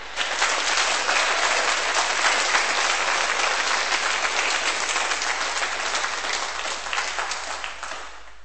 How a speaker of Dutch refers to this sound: Mogen jullie elkaar nu kussen? Een applaus geven.